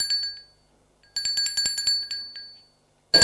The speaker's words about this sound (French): Quart d'heure après, on a sonné à sa porte.